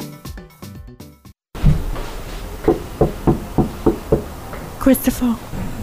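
A series of firm knocks on a wooden door, about six evenly spaced raps followed by a quicker cluster of three, close by, after a brief snatch of music cuts off.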